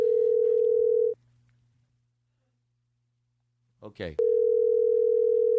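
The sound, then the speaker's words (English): A steady, loud telephone dial tone hums, cuts off for a few seconds of near silence, then a brief click and rustle before the continuous tone resumes. “It's like a bunch of different kinds of phones.”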